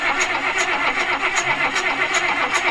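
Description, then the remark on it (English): A John Deere tractor engine starting up, a loud mechanical churn with a steady repeating pulse throughout and no voices. “But what got me thinking about that car was the John Deere, the tractor starting audio that I played.”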